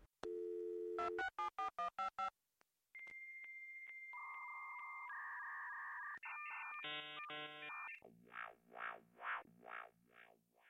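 A steady telephone dial tone, then a quick run of keypad dialing beeps and shifting call tones as a phone call is placed, ending in a pulsing ringback. Loud, with no voices.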